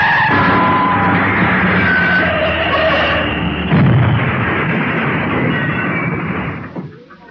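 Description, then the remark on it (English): A worn-out car with failed steering, going too fast, skids with its tyres squealing long and loud over roaring engine noise, then a heavy crash of impact around midway, with clattering wreckage settling before the sound fades out. “This car's too clapped out for speed. Look out! It's no good! The steering's gone!”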